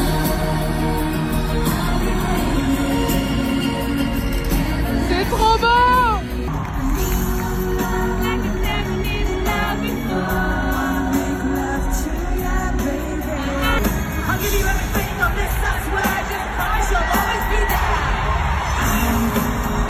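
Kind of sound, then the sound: crowd, concert recording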